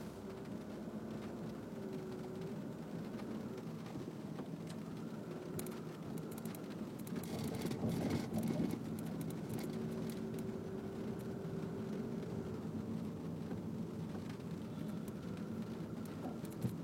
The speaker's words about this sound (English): Also, it just started raining.